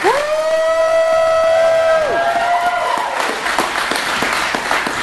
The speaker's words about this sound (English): Thank you. That was good. That felt good. It did. Cathartic. Right. I like applause. Do it again.